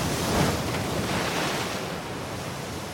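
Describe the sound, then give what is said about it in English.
Waves break and wash steadily against a lake shore at Sheboygan, in fog under a gale watch, a continuous rushing hiss with a slight surge near the start, mixed with wind noise and no voices. “I think we're under like a gale watch right now, but it's just the fog has really suppressed the surf.”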